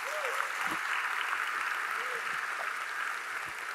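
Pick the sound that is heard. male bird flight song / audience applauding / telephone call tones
audience applauding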